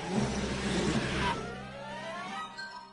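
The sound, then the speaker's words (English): A small clown car engine revs loudly, starting with a rough, noisy burst before settling into a rising, whining pitch. It's steady, with no voices. “Hey, little birthday boy, I got my little clown car.”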